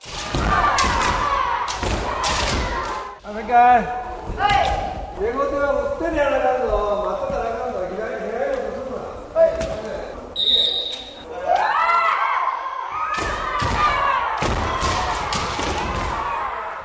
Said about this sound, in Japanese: ある平日の夜7時、砂山小学校の体育館を訪ねると、子どもたちが剣道の練習に励んでいました。